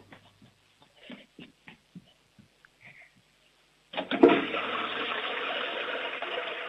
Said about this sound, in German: Du, das ist eine tolle Klospülung